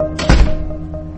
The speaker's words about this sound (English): You can shut the door behind you.